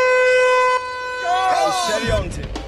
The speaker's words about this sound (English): With the boats untangled, it's time to race. OK, teams, go on the sound of the horn. 3, 2, 1...